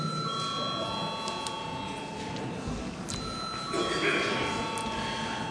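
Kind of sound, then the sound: signal or alarm, parliament chamber bell called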